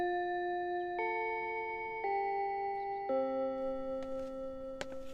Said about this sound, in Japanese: ほら、チャイムも鳴ったことだし、授業に集中しろよ。